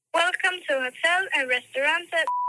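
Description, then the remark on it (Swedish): An automated hotel phone menu voice says "For English press 9" for about two seconds, then a single steady electronic beep from a telephone keypad cuts in clearly and holds briefly at the very end. “For English press 9.”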